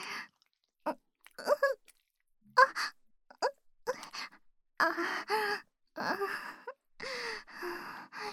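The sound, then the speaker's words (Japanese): Heavy, ragged breathing in irregular bursts of breathy gasps and sighs, some with a faint voiced moan, separated by short pauses. No words are spoken. “息荒いですよ。”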